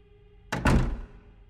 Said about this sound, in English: She flinched and stepped back into her apartment, swinging the door shut.